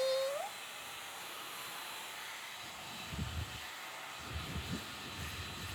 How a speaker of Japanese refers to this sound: ごめんごめん。ドライヤーね、ドライヤー。あったあった。ほいじゃ、ドライヤーかけますよ。ブイーン。